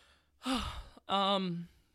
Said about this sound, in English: I'm not crying. It sounds like I'm crying, but I was just yawning. Or no, I was gonna burp, but then I stopped my burping.